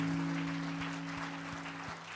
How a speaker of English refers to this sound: Give Lord a good clap offering. Would you do that? Come on.